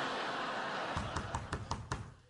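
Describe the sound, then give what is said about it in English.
A quick series of about six knocks on a door, evenly spaced, rising out of a steady background hiss with no one talking. “There's someone at my door.”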